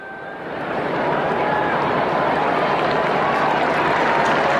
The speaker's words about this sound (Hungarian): Akinek a megjelenését öröm, taps, örömújongás kíséri a téren jelenlevő zarándokok részéről, hívek részéről.